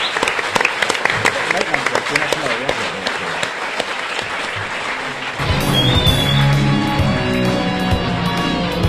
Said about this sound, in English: So, big round of applause for all of our people. Yeah, thank you.